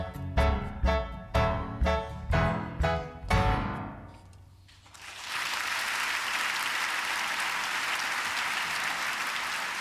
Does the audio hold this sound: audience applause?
yes